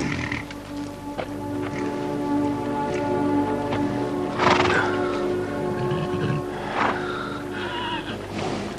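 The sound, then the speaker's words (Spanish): A horse approaches and gently nudges a lying person's face with its muzzle to wake him, snuffling and blowing through its nostrils with a couple of louder snorts midway, over a steady patter like light rain. No one speaks. “Su caballo se le acerca y le golpea suavemente la cara con el morro hasta despertarle.”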